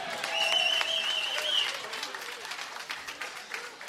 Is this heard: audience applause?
yes